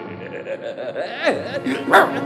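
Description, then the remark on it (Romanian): A voice imitates a dog, giving a few short yipping barks and whiny, sliding whimpers up close, with the last bark the loudest. “Lasă, acum, ai auzit, Iorica, ai auzit? Am auzit, cățelule.”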